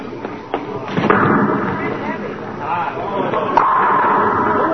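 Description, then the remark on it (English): A bowling ball rumbles down the lane and crashes into the pins with a loud clattering burst, knocking them all down, set against busy background noise with a hubbub of voices. “Oh, I knocked them all down.”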